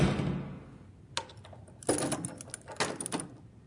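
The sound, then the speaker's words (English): A door lock clicks and rattles, a single metallic clack followed after a pause by a quick cluster of jingling, clicking latch sounds, fairly quiet with no voices. “All right, John, is that door locked?”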